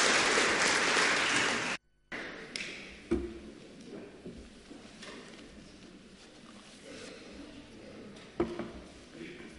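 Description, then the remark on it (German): A burst of dense group applause for someone who has just read a Bible passage (Matthew 7) fills the first two seconds, then cuts off abruptly; afterward only a few scattered claps and soft knocks remain against a quiet background. “Dafür kriegst du jetzt auch einen Applaus.”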